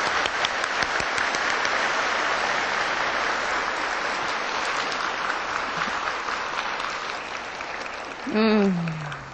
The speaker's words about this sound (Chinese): 好，现在大家以最热烈的掌声恭请师父开示。